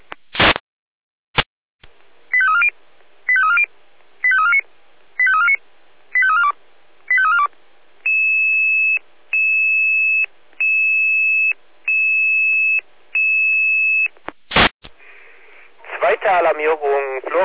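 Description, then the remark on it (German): Loud fire brigade radio alert tones for a second alarm, a B2 fire call at Schondorfer Straße 7 triggered by a home smoke detector: after squelch clicks come six quick warbling chirps, then five long, steady high beeps in a row, ending in a burst of static as a voice starts. “Zweite Alarmierung, Florian Kahler, Schondorfer Straße 7, Brand B2, ausgelöster Heimrauchmelder, es ist 16.33 Uhr.”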